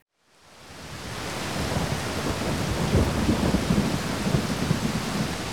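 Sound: rain falling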